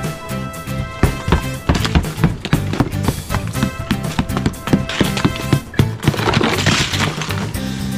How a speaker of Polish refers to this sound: Dobra, ciężarówko, mamy to. Sople zlikwidowane.